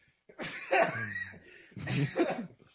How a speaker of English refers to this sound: Oh, my God. I sneezed, coughed, and left all at the same time as that was happening.